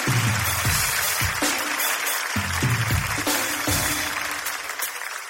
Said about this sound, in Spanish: Pero bueno, un aplauso para mi amiga, por favor. Un aplauso.